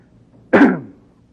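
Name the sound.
coughing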